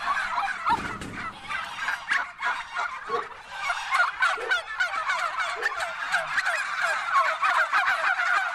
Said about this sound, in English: Now through the yard. Ah, look at them. Bronze turkeys, are they? Bronze turkeys. The noisy in the morning. Yeah.